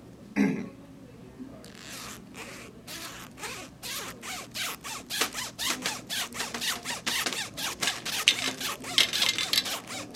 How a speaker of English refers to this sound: And now, long ago in Zizzlevaria, the Zizzlevarian anthem, as played on Zipper, Arizona Iced Tea, and Cheez-It.